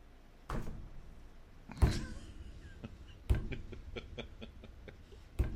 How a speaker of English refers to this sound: And it would be, like, every spring, without fail, like, in the morning, like, all day long, the robin would just go, like, flying at my windows. Like, this is what it would sound like for all day long.